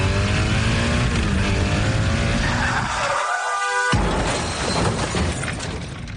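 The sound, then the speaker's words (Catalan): A loud motorcycle engine revs with rising pitch as the rider weaves between cars, then tires screech in a sharp skid, followed by a burst of harsh, noisy clatter as the motorcycle crashes. No one speaks. “De camí a casa amb la moto. Faré zigazagues entre els cotxes. I tindré un accident.”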